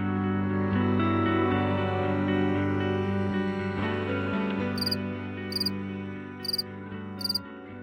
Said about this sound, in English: Marlene Zook from the University of Minnesota is here to talk about crickets.